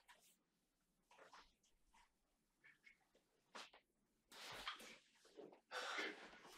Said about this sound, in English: It's just a dog.